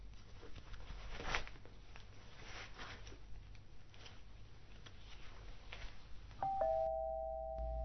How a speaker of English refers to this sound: Was that the doorbell? Honey! Babe! Did you hear...